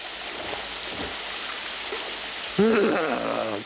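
rain

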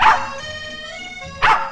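dog barking

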